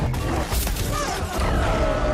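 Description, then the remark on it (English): Dense, continuous gunfire with heavy, brassy low thumps, overlaid by thin whistling streaks of projectiles, dozens or even hundreds per shot, whizzing past through the air in a steady, chaotic barrage. “Not only can you hear that really brassy thumping of the guns, you can hear the whizzing of the dozens, even hundreds of projectiles per shot rushing through the air.”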